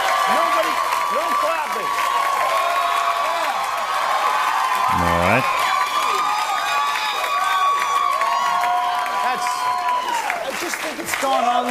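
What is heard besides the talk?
audience applause and cheering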